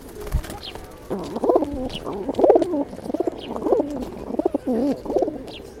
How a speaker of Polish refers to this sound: Ptaszeczki.